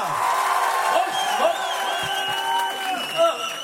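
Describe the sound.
An audience cheers and applauds: a dense wash of clapping under overlapping whoops and high shouted voices, staying loud and steady for several seconds.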